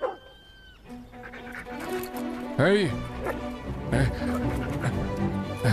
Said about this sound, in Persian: بایست دیگه. وایسا، بهت میگم وایسا سگ احمق. خفه شو.